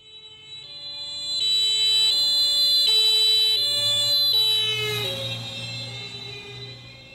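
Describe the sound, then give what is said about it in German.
A two-tone German emergency vehicle horn alternates steadily as the vehicle approaches and passes; its pitch drops noticeably as it goes by, then fades over a low engine rumble. “Wenn das Einsatzfahrzeug an dir vorbeigefahren ist, ist es umgekehrt. Der Abstand zwischen den Schallwellen wird größer und das Signal des Einsatzhorns klingt tiefer.”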